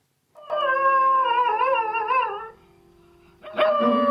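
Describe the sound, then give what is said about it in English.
A dog howls a long, wavering, tuneful note while accompanying itself with sustained piano tones; after a brief lull a fresh piano chord strikes and the howling picks up again, loud. “I know this is a dog singing. He's accompanying himself on the piano.”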